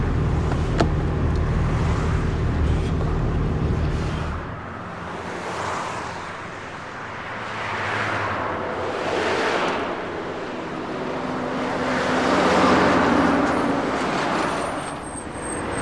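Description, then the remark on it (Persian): Steady road noise from a moving car, with a low engine rumble early on and then a series of swelling whooshes like vehicles passing in traffic. No one speaks. “یکم آرومتر برو ردشون نکنی.”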